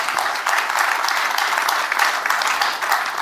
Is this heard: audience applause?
yes